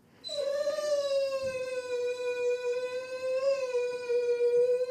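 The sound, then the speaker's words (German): A dog lets out one long, sustained howl, its pitch holding steady with a slight waver and rise near the end, loud and unbroken for the full five seconds. “Das ist jetzt im Moment so, wie der Hund sich benimmt, ist er noch kräftig genug.”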